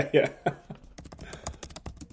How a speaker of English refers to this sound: Yeah. And then you're going to hear typing in the background a little bit, pulling up all these schedules on the fly.